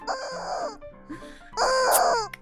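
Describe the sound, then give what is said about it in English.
A squeezed rubber chicken toy lets out two loud, strained squawks, each a drawn-out wheezy shriek, with a softer wheeze between them. No voices. “But this does catch her eye. She'll take a look. It's another squeeze.”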